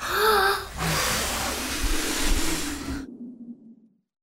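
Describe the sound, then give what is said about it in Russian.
A brief vocal intake, then a loud, forceful blowing rush like a big puff of wind lasting a couple of seconds as a wolf blows at a wooden house, cutting off sharply and leaving a low fading rumble. “Волк подул.”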